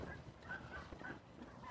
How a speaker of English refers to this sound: I hear geese. Hearing geese makes me happy.